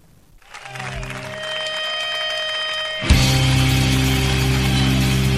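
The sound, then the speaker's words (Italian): Dense clapping of an audience swells in, layered with steady sustained tones, then jumps louder around the midpoint as a fuller burst of applause and low droning notes take over. “Sta suonando in tournée, quindi un applauso ci stava, assolutamente.”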